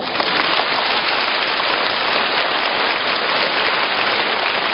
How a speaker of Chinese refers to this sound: 那么鼓掌鼓了半天，我就是想听听了，我就讲给你们听了啊